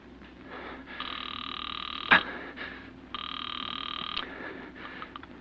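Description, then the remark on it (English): A telephone rings twice on the line as a call is put through by the operator to a police station, two buzzy, trilling bursts of about a second each separated by a short pause, with a sharp click between them and faint background hiss. “Then, terrified, you pick up the phone. Operator, get the police.”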